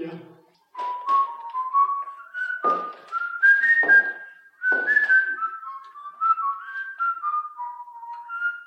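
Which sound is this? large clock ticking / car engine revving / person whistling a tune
person whistling a tune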